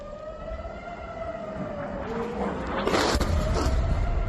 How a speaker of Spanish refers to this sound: Y ojo, porque en el norte de Israel han sonado las sirenas por lo que parecía un ataque aéreo con drones procedentes del Líbano.